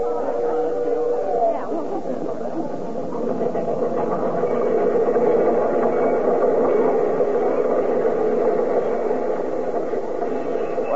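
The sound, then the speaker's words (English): A train arrives on track 3 at a station, its dense mechanical roar filling the scene without pause, while a crowd murmurs indistinctly beneath it. “I don't see anybody in uniform on that train.”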